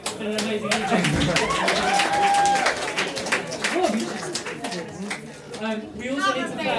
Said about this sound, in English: Let's give a round of applause for everyone that's played tonight. It's been an amazing evening.